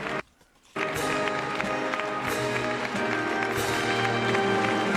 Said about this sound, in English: And we are about to receive the President-elect, Donald Trump. A round of applause as he walks into the Capitol Rotunda.